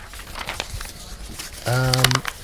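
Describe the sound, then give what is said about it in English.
A sheet of paper is crumpled up to be thrown away, crinkling and crackling in quick, uneven bursts, followed near the end by a short sustained voiced sound over the rustling. “This paper, you know what? None of us need to read this one. I'm going to throw this one away, actually.”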